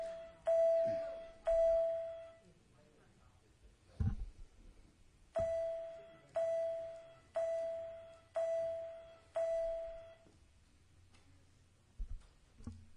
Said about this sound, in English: Do they ring the bell three times or just twice?